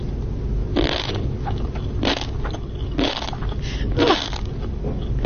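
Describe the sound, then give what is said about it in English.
A woman crunches on tobiko eggs and sea grapes: four crisp, crackly chewing bursts about a second apart, over a steady low background rumble with no talking. “And now she puts it in her mouth and she starts crunching it.”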